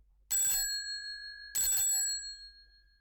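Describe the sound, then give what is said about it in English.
A doorbell rings twice, about a second apart, each chime bright and metallic with a clear ringing tone that hangs briefly before fading. Loud, with no voices. It is Holmes's doorbell on a London street, rung by a woman who ran across the road. “Then suddenly she ran across the road and rang Holmes's doorbell.”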